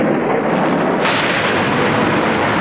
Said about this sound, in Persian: خداست که زمین را گسترانده و آسمان را بر فراز آن افراشته است و خورشید نیز یکی از مظاهر قدرت آفرینش اوست و همچنین است رعد و برق.